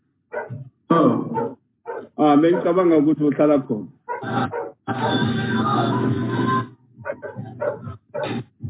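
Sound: dog barking in background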